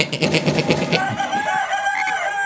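A rooster crows once, opening with a harsh, pulsing burst before stretching into a long, wavering high note that holds steadily to the end.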